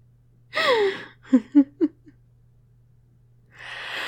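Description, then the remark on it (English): A single long yawn, a breathy voiced tone sliding downward in pitch, followed by a few short low murmuring sounds and then a soft rustling hiss. “Oh no, big yawn.”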